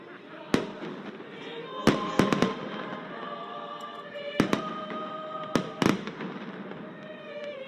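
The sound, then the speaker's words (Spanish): Sharp fireworks blasts crack out repeatedly, some in quick clusters, over a steady crowd murmur and faint voices at Plaza de España in Madrid, with a choir singing unamplified underneath. “Esto es a pelo, sin megafonía y con el ruido de los fuegos artificiales.”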